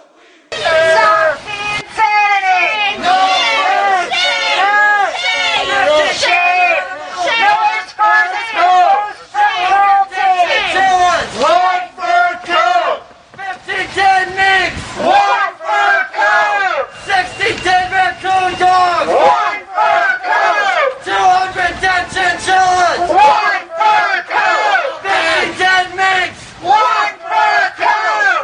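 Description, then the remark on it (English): A loud crowd of anti-fur protesters screams and chants outdoors at a fur store as customers pass through, many voices overlapping in rough rhythmic bursts with brief pauses, sustained throughout. “After chasing customers away from Garden House Furs for the better part of an hour, protesters moved on to Miller's Furs, where customers had to run a gauntlet of screaming protesters.”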